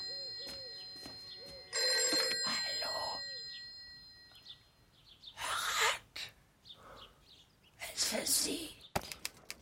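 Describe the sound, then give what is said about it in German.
A telephone rings insistently for the first few seconds, its bright metallic tone ringing out before fading, followed by a few sharp noisy bursts and faint voices. “Ein Telefon? Es gibt hier ein Telefon?”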